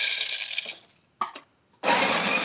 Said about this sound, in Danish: Men ikke du straks gættede, at det var kaffebønner, som raslede på noget, og så blev kværnet på en kaffekværn?